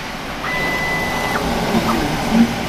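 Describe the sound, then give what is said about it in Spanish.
A 3D printer runs, a steady mechanical whir with a thin motor whine that holds one pitch, then shifts as the print head moves, plus a few small clicks. “vamos a acercarnos a la impresora.”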